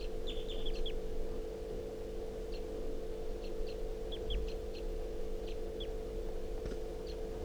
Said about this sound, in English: The wild bird just flew over the net and came close, chittering on a swooping flight.